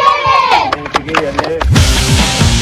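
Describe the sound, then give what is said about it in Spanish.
The Magallanes women's team, after beating Cañón 2-0, claps in sharp, uneven bursts at the end of the match, then breaks into loud shouting and cheering together, voices overlapping in an excited celebratory chant. “Con gritos y aplausos incluidos ahí al final del encuentro.”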